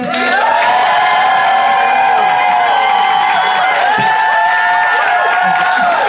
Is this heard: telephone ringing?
no